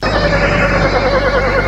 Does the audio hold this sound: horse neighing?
yes